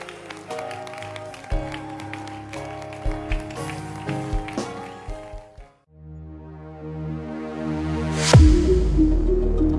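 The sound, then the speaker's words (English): A church audience claps along under loud keyboard music with sustained chords as a bishop is welcomed to close the service; the clapping fades after a few seconds, leaving a swelling musical sweep and a low drone. “Clap your hands.”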